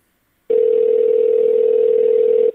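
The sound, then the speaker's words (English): A telephone ringing tone as an automated phone system transfers a call: a single steady, low-pitched electronic tone that starts abruptly after a brief silence and holds evenly for about two seconds, with no voices. “Oh, and there's the call.”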